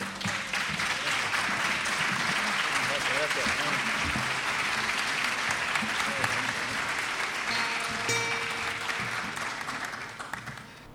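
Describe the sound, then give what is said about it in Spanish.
Sustained audience applause at a payadores' improvised verse performance, a dense steady clatter of many hands clapping, tapering slightly near the end. “Si a ustedes les parece, le damos un aplauso”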